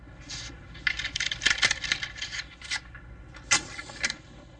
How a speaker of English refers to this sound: 2 coins, a dime and a nickel, tapped on a wooden kitchen table. Which one was it, Stevie?